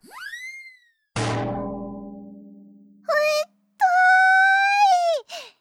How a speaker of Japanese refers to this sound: 痛いじゃない。何よこのたらい。古いお笑いのネタじゃないんだから。